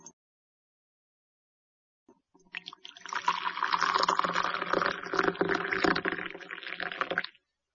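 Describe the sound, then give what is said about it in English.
Boiling water is poured into a cup with tea in it to make tea, a steady, splashing stream lasting about four seconds, fairly loud, starting after a brief pause and stopping abruptly. “Then, put some boiling water in the cup.”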